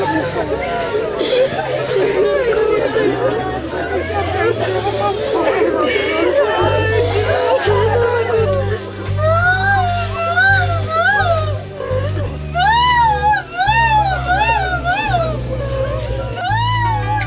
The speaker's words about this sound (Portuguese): A tristeza de familiares e de amigos se misturam ao choro da mãe.